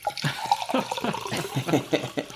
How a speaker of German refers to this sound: Ich mach mir, hört man auch gleich, roten Spritzer.